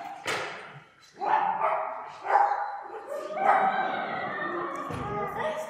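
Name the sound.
dog barking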